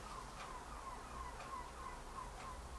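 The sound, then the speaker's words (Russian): Faint bird calls chirp in short bursts over a steady low background hum, with soft clicks repeating about once a second; no one speaks. “Кто там такой прилетел к нам? Хорошие птички.”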